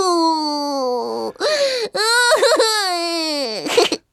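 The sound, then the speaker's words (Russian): A voice imitates a little girl's loud, wailing cry: sustained, quavering howls with a few brief catches and sobbing breaks, alone for about four seconds. “Что за рев? Там не стадо ли коров? Нет, там не коровушка. Это Ганя-ревушка. Плачет, заливается”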